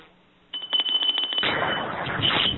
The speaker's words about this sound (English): say three times together, may peace prevail on Earth, to close the ceremony after the sound of the bell.